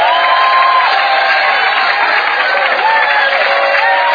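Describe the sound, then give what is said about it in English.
A large crowd claps and cheers continuously as a hand clap to the Lord during worship, a dense, loud wash of hand claps with voices shouting and whooping over it, steady throughout with no pauses. “So I believe before you see them, you give the Lord the biggest hand clap.”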